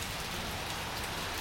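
Steady rain falls continuously, a dense, even hiss of drops striking a surface at moderate loudness, with no voices or other sounds breaking through.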